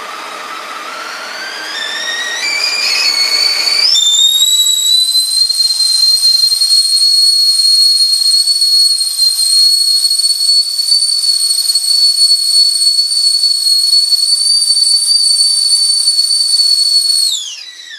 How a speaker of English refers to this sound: That was a whistling kettle. All right. I thought for a second it was Marv in Home Alone 2 getting electrocuted. And then obviously it just became higher pitched. Yeah, definitely a whistling kettle.